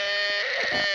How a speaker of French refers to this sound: C'est... ça, c'est le cri du cochon qui meurt.